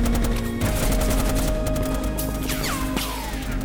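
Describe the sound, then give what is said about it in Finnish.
Loud, sustained automatic gunfire with tracer rounds crackles in rapid, overlapping bursts from several weapons on a firing range, with a few high whistling sweeps near the end and no voices. “Valtava rätinä alkaa ja valojuovien viirut alkavat sinkoilla ampuma-alueella.”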